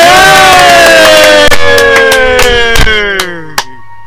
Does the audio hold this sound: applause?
yes